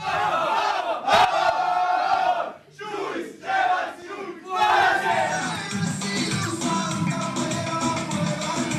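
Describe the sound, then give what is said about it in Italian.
A group gathered in a circle shouts a loud cry in unison, a few rhythmic bursts with brief pauses, then breaks into a long sustained crowd roar that carries to the end. “Ci riuniamo il cerchio, un grido e andiamo via tutti quanti e completiamo questa bella giornata.”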